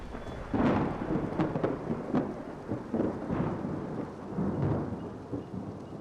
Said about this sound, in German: Gewaltige Gewitterwolken ziehen auf.